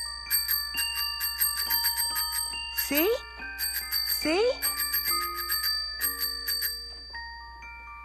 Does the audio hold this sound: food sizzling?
no